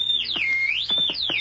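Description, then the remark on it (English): A loud, shrill whistle blows continuously, its pitch sliding down and rising again in two swoops, with a few faint knocks underneath and no talking. “The whistle!”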